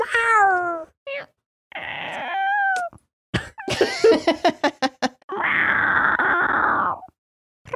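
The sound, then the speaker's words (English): A cat meows several times, with a burst of sharp clicking taps in between, then lets out one long, harsh, drawn-out yowl. “Meow.”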